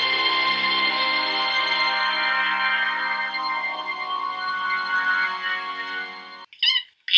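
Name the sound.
cat meowing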